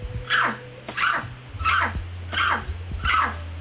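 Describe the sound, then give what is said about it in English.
On a radio show, a person told to bark like a dog imitates a dog barking with five loud, evenly spaced, throaty woofs, each falling slightly in pitch, over a low steady hum. “Bark like a dog.”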